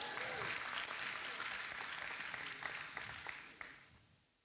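A church audience claps together during a sermon in a dense, steady wash of applause, a few voices calling out underneath, before the clapping thins and fades away over about four seconds.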